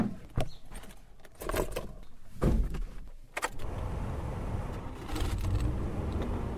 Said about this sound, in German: Seo wirft sein Auto an, einen betagten Geländewagen.